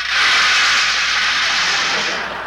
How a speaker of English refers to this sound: Just then, it started to rain.